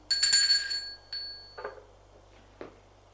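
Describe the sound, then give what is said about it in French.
A doorbell at the door of a studio flat rings with a bright, metallic chime that rings out and fades, followed by a second shorter ding and then two soft, dull clunks. No one speaks. “Il sonne à la porte du studio.”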